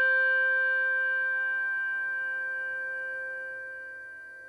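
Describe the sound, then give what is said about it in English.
A single Schulmerich handbell with a tang rings out clearly and alone, its bright, shimmering tone with several overtones sustaining and slowly fading over several seconds without being damped. “This is a Schulmerich bell, the one with the tang.”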